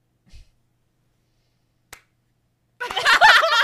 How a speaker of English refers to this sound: The slow clap.